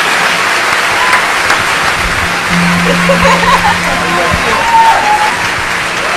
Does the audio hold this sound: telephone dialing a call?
no